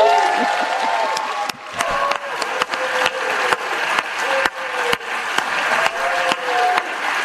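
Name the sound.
cheering and applause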